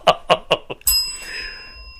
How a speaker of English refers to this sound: Ring that bell.